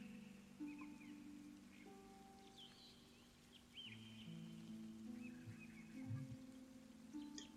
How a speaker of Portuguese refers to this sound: Após plantar várias sementes, uma chuva cai e molha a terra.